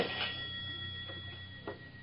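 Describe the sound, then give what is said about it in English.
A telephone rings in an apartment with a steady, high-pitched electronic tone that holds throughout, fairly quiet, accompanied by a few soft clicks and knocks in the background, with no one speaking. “The phone was ringing as I stepped into my apartment.”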